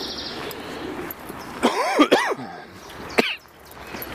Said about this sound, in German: Ich hasse diesen Husten.